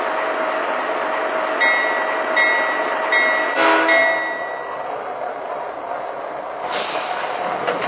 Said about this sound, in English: train number 682, the Down Easterner.